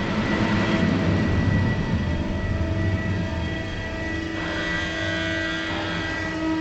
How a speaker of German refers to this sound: De scan ist binnen in de tunnel en op het moment jullie horen de sirenes wordt nu de foto gemaakt. Een foto van de zijkant en een foto van de bovenkant. En daarom horen jullie de sirene nou.